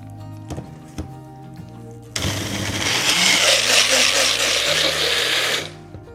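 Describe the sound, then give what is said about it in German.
A few clicks over a low electric hum, then a blender roars to life, grinding pineapple with 50 ml of water into a creamy smoothie, whirring loudly and steadily for about three seconds before cutting off abruptly. “Wir werden jetzt nur 50 ml Wasser dazugeben und dann das Ganze cremig mixen.”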